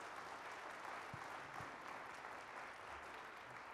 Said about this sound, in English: Again, let's give the Variations and the praise team, Dr. Thornburn, a round of applause.